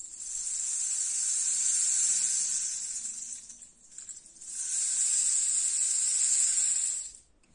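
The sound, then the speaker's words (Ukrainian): A rain stick, the Ukrainian ethnic instrument called doshchovytsia, pours out two long, steady cascades of fine pattering hiss imitating rain, each swelling and fading, with a short gap between them and no voices. “Дощовиця імітує звуки дощу, і тому так називається, і здавна цей інструмент використовували карпатські мольфари, щоб викликати дощ.”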